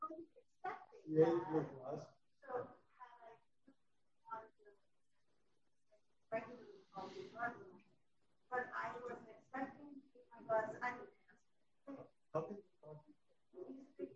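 A huge dog barks and whimpers in loud bursts, with several clustered yelps, a pause of a couple of seconds, then another run of barking and whining.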